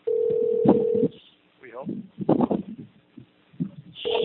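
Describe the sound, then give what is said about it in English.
A telephone rings in another room in steady electronic bursts with little beeps, one long ring, then a pause filled by people talking, before the ringing starts again at the end. “That sounds like a phone ringing somewhere.”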